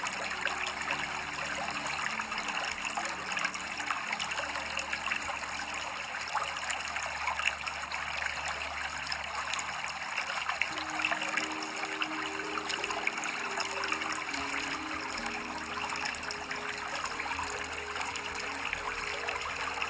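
Steady trickling stream water flows continuously for the whole stretch, a soft, even babbling with no talking and no pauses, moderately quiet.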